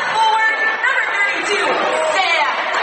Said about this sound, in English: Excellent crowd here for senior night at Rushi High School. You would expect it to be darn near full.